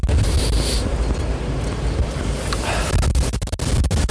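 Wind buffets the microphone in a steady, loud low rumble, with gusty swells and crackly bursts over about four seconds. No one speaks.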